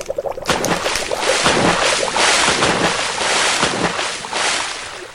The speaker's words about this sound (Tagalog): Rumaragas ang tubig. Parang nag-aalimpuy yung dagat. Tinatangay ako ng alon.